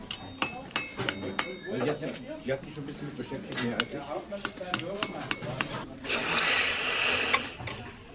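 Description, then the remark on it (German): A burst of hissing, sizzling steam as glowing, freshly forged iron is quenched in cold water in a smithy, following a run of ringing, irregular hammer blows on metal, with faint voices underneath. “Und so klingt es dann, wenn das glühende, frisch geschmiedete Eisen im kalten Wasser gelöscht wird.”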